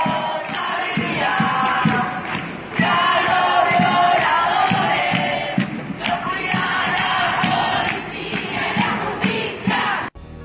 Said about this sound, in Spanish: Escuchen uno de los cantos que las militantes de los colectivos feministas de esa noche y presten atención a quienes van dirigidos los reclamos.